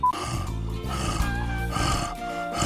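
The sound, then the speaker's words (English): A person imitates a roar for a recorded take of wild roars, with a low, rough, sustained growl from the throat. It is gravelly and buzzing, lasts a few seconds and surges slightly in loudness. “Roar! That's as close as I can get right now.”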